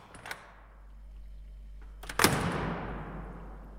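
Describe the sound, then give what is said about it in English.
The door of a meat fridge opens: a brief click first, then, after a pause, a sharp clunk followed by a broad rushing swell that slowly fades. No voices. “I opened the door.”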